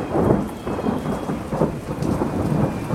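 nature, thunderstorm with torrential rain

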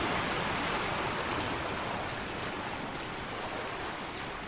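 nature, waves crashing

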